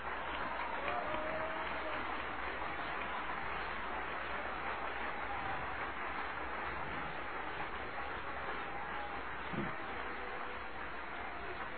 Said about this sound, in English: Oh, come on. Let's give him some applause.